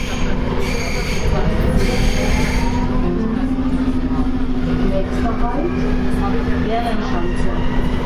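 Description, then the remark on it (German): A subway train rumbles loudly and steadily through a station, with a low droning hum and thin metallic wheel squeals rising and fading over the roar, and faint voices in the background. “Und dann sind wir auf diesen U-Bahn-Sound gekommen, der ja so ganz krass vor allem am Plärrer ist.”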